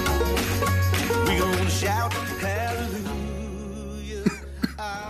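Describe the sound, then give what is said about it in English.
Music with sustained tones plays for most of the stretch, then a pastor coughs twice, short and sharp, close together and fairly prominent over the fading backing. “That sound that you heard in the background was your pastor and mine coughing.”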